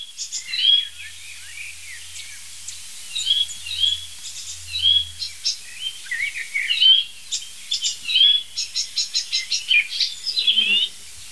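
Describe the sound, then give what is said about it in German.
An icterine warbler sings a rapid, varied song of chirps, trills and repeated phrases that mimic other birds, including song thrush and blackbird warning calls, bright and fairly loud, with a faint low hum underneath. “Wir lassen den Gelbspötter weiterziehen.”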